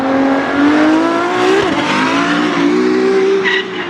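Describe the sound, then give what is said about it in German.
Loud, continuous high-pitched whine of Formula 1 race cars revving at the Monaco Grand Prix, the engine tone climbing and wavering with brief tire squeals, no voices over it. “Für das berühmte Formel-1-Rennen auf jeden Fall, den großen Preis von Monaco.”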